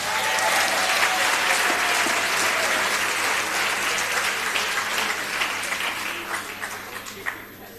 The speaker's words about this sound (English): Okay. I want to see you clapping. Thank you.